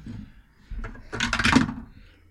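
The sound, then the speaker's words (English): Dice clatter across a tabletop in a short rattling burst, preceded by a couple of light clicks, with no one speaking; the dice are rolled for an intelligence check and come up a natural 20. “I am all over the spectrum of dice rolls today.”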